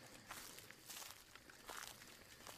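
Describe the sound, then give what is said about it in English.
Slow, careful footsteps crunch over leaf litter in quiet woods at night, about four soft steps spaced evenly apart, faint, with no voices. “Footsteps, slow and careful ones.”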